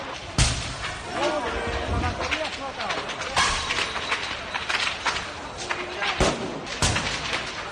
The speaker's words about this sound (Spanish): El crepitar de las baterías explotando da una idea de la sinrazón que estamos viviendo. Escucha.